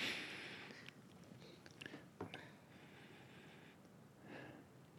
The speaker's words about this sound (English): Isn't this exciting? We're all just sniffing this.